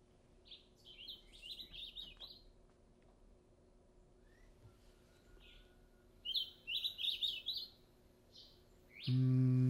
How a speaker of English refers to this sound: Nope. That sounds more like house finch to me. Yeah, that does sound like house finch.